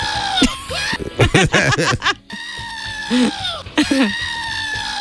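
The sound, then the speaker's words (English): A goat bleats in several loud, wavering cries, the shaky, quavering calls coming in quick bursts with short pauses between them, mixed with other animal noise in the background. “The goat wants to get in on it.”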